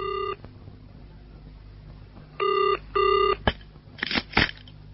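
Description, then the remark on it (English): A telephone ringing tone sounds in short electronic bursts, a brief one then a close pair, followed by a few sharp clicks and clunks like a handset being picked up, as a call is made from a phone box to a family doctor. “their son rushed to the nearest phone box to arrange for their GP to call at the house.”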